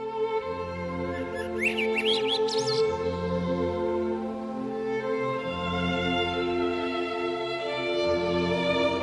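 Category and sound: bird, birds calling at dusk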